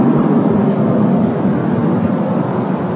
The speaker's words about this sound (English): I'll wait till the jet passes.